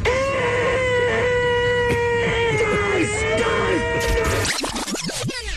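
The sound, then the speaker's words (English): A goat-sounding car horn that Tesla will offer on its new cars, bleating like a goat: a loud, nasal, wavering tone held for several seconds, ending in a flurry of quick falling squeals. “You can actually get a goat-sounding horn.”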